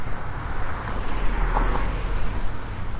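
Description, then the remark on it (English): A steady, broad roar of street traffic with a deep low rumble, vehicles moving past continuously at moderate loudness, heard while walking in the street parallel to the traffic, with a faint windy hiss over it and no voices. “All right, we're going out into the street here. Walking parallel with the traffic because of the construction.”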